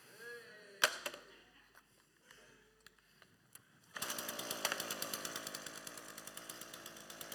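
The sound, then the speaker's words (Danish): A sharp clack and a few faint knocks, then a chainsaw roars to life partway through, its loud, rasping engine buzz pulsing steadily to the end. “Og så har jeg også taget noget andet med, som jeg glæder mig helt vildt meget til. Jeg har nemlig taget en motorsav.”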